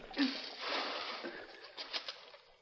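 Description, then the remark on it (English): A bucketful of sand and crushed limestone tipped in to be run through and washed for gold: a steady gritty rushing hiss that trails into a few scattered pattering bursts as the last of it falls. “Fetch another bucket of that sand and limestone. We'll run it through the rock here.”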